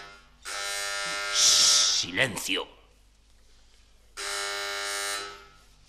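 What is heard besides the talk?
doorbell ringing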